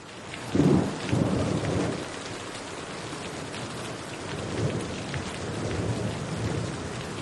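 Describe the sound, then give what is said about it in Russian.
Heavy, cold rain pours down from black-grey clouds in a steady, dense hiss while deep thunder rumbles, swelling early on and again midway, with no voices. “Но тут пошел дождь.”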